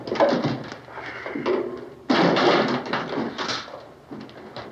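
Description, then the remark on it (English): Chairs scrape and drag across a hard floor in rough, noisy bursts, a loud fresh scrape starting midway, with some bumps and knocks as a couple of chairs are pushed together. “Drag a couple of those chairs together.”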